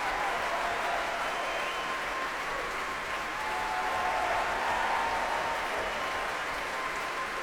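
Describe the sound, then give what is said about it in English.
A Proms concert audience applauds the Royal Scottish National Orchestra and cheers its principal horn player, David McClenahan. A loud, dense wash of clapping holds even for the whole stretch, with cheers and shouts rising through it. “That's the principal horn player, David McClenahan, getting a rousing cheer here.”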